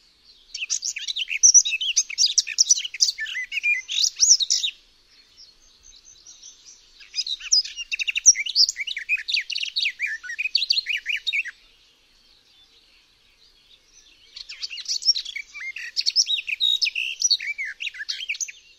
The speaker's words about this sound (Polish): Głos gajówki, dawniej zwanej pokrzewką ogrodową, przypomina nieco pieśni kapturki, czyli pokrzewki czarnoubistej. U gajówki jednak odstępy między zwrotkami są znacznie krótsze niż sama zwrotka.